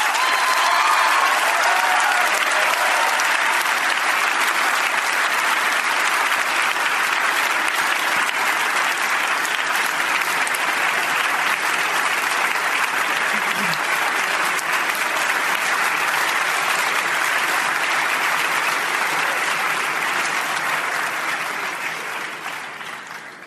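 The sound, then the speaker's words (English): Sustained audience applause at a debate after a speaker for a motion to cut ties with Saudi Arabia, a dense steady roar of many hands clapping at full loudness for over twenty seconds before tapering off slightly at the end, with no speech. “Your hands will get tired if you clap too long for every speaker.”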